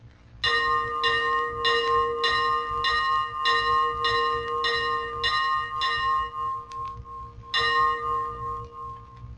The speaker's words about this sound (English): Rapid ringing of the ship's bell is part of the fire call.